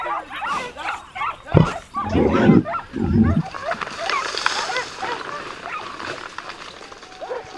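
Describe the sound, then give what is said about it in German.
A pack of hunting dogs in a forest barks and yelps excitedly in overlapping bursts while chasing a fleeing wild boar, with a few loud barks early on, then a dense, chaotic chorus of baying continuing in the background. “Eine Hundemeute hat ein Wildschwein entdeckt, das wie vom Teufel gejagt die Flucht angetreten hat.”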